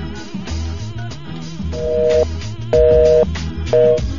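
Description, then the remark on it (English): Telephone dialing tones, then a busy signal for the number called, pulsing in steady on-off beeps: three bursts of about half a second each, over loud background music with a thumping beat. “Oh, well, that number's busy there. That ain't gonna work.”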